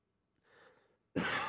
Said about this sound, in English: Sorry. I somehow coughed the keyboard open on my tablet.